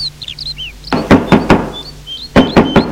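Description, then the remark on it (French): Firm knocks on the wooden door of a shepherd's house, three quick raps, a pause, then two more, loud, with faint birdsong chirping in the background. “Il arrête sa monture et frappe à la porte.”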